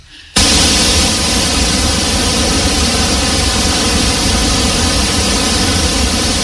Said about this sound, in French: Bon, ok, j'avoue, celui-ci est plutôt stressant. Non, en fait, le bruit rose, c'est ça.